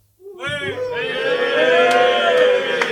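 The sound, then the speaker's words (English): An audience cheers and whoops together to vote between the KDE and Gnome desktops, a sustained burst of voices rising quickly and holding loud for a few seconds, with a few sharp shouts poking out above the roar. “We want to hear, we would say show of hands, but that doesn't translate well sonically. So let's have a cheer.”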